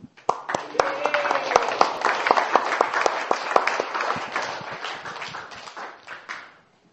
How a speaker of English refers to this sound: We want to thank you and give you a round of applause and appreciate all the wonderful service you're doing.